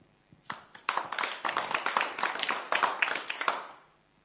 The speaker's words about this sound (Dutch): Laten we God een groot applaus geven voor wat hij in het leven van mensen doet